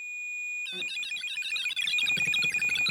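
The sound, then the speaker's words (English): A handheld electromagnetic field detector with a long antenna, used to detect ghosts, sounds its alarm: a steady high electronic whine that breaks into a loud, warbling, chirping squeal, continuous, with no voices. “It's a detector, it's an alarm that if something comes close to it, like a spirit.”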